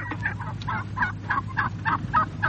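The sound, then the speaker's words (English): A flock of turkeys gobbling in rapid, overlapping bursts, a dense chorus of warbling calls repeating roughly every quarter second over a steady low hum, moderately loud. “That's a whole banquet of turkeys introducing a fascinating sidelight on the world of Grundig.”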